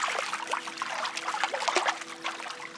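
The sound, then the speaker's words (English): Water trickles and splashes steadily as a spiky, digging animal heads into a river, with small irregular sloshes and drips throughout. No voices. “There he goes again. He's heading into the river.”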